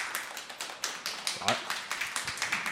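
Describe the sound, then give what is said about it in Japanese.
A small audience claps steadily to vote for the film Bohemian Rhapsody as the best film. The overlapping hand claps form a rapid, uneven patter with a few sharper, louder claps standing out, at moderate volume. “ボヘミアンラプソディがベストだと思われた方、拍手をお願いします”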